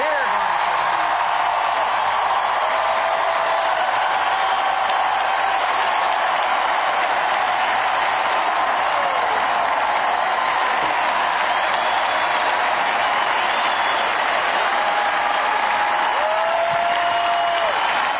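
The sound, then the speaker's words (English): A large crowd in a room at a political election speech roars, screaming and cheering while steady applause runs beneath, with occasional high whoops rising above the dense, unbroken wash of noise for the whole stretch. “All these white people together in a room screaming, I defy you.”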